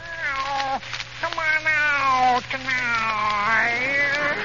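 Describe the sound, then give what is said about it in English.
A human voice imitates a lovesick cat sitting on a fence serenading its mate: three long, wavering, nasal wails that slide up and down in pitch, loud and drawn out, separated by brief breaths over a faint steady hum. “Didn't you ever hear a lovesick cat sitting on a fence serenading his mate like this?”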